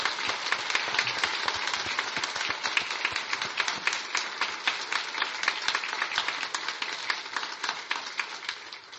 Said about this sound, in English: Can we get a round of applause for our newest members?